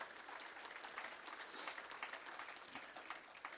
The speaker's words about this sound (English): Now give God a hand clap of praise if you're getting anything out of this.